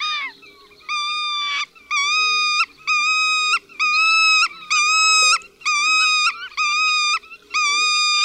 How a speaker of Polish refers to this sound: Zaniepokojony ptak siedzący na ziemi wydaje natomiast serię pojedynczych, płaczliwych sylab.